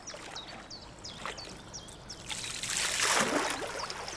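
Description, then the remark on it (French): Water drips from a paddle while paddling on the Nantes-Brest canal in Brittany, France, in a quick series of small, bright plinks, then a louder rushing swish of water builds and carries through to the end. No one speaks. “J'entends les gouttes d'eau qui tombent de ma paillée, j'entends mon souffle, j'entends les canards, les oiseaux, les feuilles, le bruissement du vent.”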